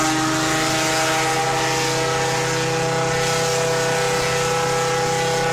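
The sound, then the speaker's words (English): A ship's foghorn blasts one long, deep, unbroken tone, loud and steady from start to finish, with a faint wash of background noise and no voices. “Turns out it was a foghorn, like this one.”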